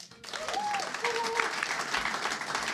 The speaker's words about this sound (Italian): Serata Fringe Me, e quindi, visto che ci sono molti Fringe Meisti qui dentro, applaudiamo.